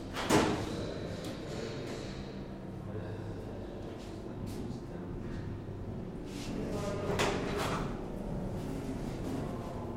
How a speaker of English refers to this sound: Let's take these drawers out and see how much room you have.